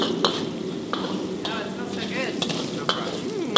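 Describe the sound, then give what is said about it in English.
Steady, crackling sizzle of hot chilies, Sichuan peppercorns, ginger, garlic and scallions being stir-fried on the fire in a heavy wok, punctuated by sharp metallic clanks of a spatula every half second or so, with faint murmuring voices in the background. “I toss in the hot chilies and Sichuan peppercorns, then ginger and garlic and scallions. Stir fry on the fire, stir fry.”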